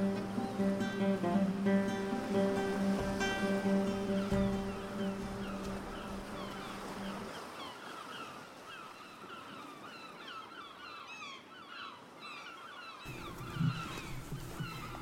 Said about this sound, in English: seagulls crying, along with a faint noise of the ocean